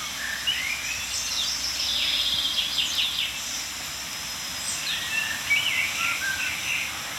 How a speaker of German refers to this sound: Amsel und Buchfink, wie immer omnipräsent.